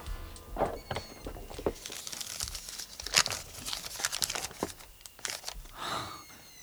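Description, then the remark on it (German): A thin rolled-up paper, found with a small key behind a hidden flap in a harlequin's costume, is unrolled with irregular crinkles, crackles and soft rustles that come in short bursts for several seconds, with no one speaking. “Dahinter befand sich ein kleiner Schlüssel und ein dünnes, zusammengerolltes Papier.”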